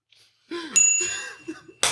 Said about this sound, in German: Achso, ich muss ja erstmal klingeln hier.